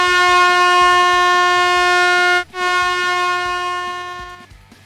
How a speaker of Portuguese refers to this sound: Então, o Pix mandou essa buzina porque você começou falando que os Chargers ganharam, que os Raiders ganharam o jogo, né?